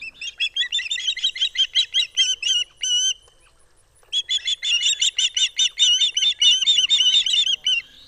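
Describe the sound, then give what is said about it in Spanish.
Osprey chicks begging their parents for fresh fish in late summer: rapid, high-pitched whistled chirps repeating in insistent bursts, pausing briefly, then resuming with even denser, overlapping cries, loud with no talking. “A finales del verano, me encanta escuchar a los polluelos de águila pescadora suplicando a sus padres un trozo más de pescado fresco.”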